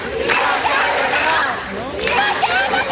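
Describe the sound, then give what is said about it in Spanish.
A crowd of a few hundred mostly young people in the París-Londres neighbourhood shouting together through the afternoon, many voices overlapping in a loud, sustained roar with rising chant-like cries and no pauses. “Han estado gritando durante toda la tarde, a diferencia de lo que se pensaría, ¿no?”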